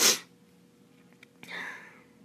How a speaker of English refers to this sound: I'm trying not to cough for you, but it's really hard, so I guess I'm just gonna go before I self-destruct.